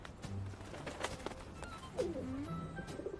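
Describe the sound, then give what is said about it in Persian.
A pigeon called Kabutarton coos in low, throaty warbles, once briefly near the start and again with a longer rolling coo, amid scattered sharp taps and clicks. “سلام کبوترتون، تو اینجا چی کار میکنی؟”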